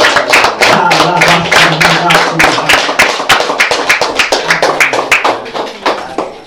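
A church audience claps for the Lord during a Portuguese-language service, many hands striking in a dense, rapid rhythm, loud throughout with a faint murmur of voices and a low hum beneath.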